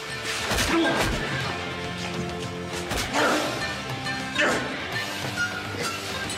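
Heavy punches land amid frantic scuffling as two men fight and grapple in a communal prison cell, with several sharp thwacks and crashes about a second apart over a dense, continuous rumble of struggle, fairly loud.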